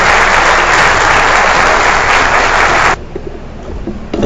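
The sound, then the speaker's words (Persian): A crowd applauds Engineer Moinfar, an Iranian earthquake engineering pioneer, as he is invited to the podium. The clapping is loud, dense and steady for about three seconds, then cuts off abruptly, leaving a quieter room tone with faint scattered noise. “جناب آقای مهندس معین‌فر رو خواهش میکنم اون چنان که شایسته نامشون هست تشویق بفرمایید تا به جایگاه تشریف بیارن.”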